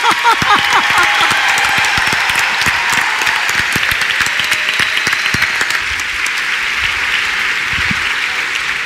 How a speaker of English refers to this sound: Let's get a round of applause for our panel here.